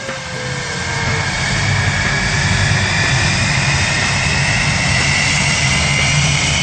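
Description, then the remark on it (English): A Rolls-Royce Avon jet engine on a Canberra aircraft starting up for the first time in 17 years, before ferry flights, its roar swelling over the first second into a loud, steady rush with high whining tones slowly climbing in pitch, and no voices. “The magnificent sound of a Rolls-Royce Avon starting up there from Canberra, USA.”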